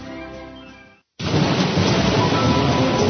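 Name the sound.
rain falling with thunder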